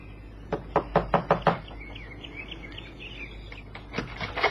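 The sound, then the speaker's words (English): A quick series of five sharp knocks on a door, evenly spaced, followed by a pause with faint bird chirping and a couple of softer taps at the end. “Knock, Johnny.”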